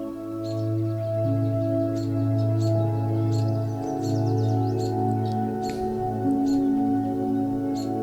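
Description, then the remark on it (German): Short, high bird chirps sound at scattered intervals in a forest clearing over a steady, low, sustained humming drone; the chirps are fairly soft, with no voices present. “Hörst du vielleicht ein paar Vögel?”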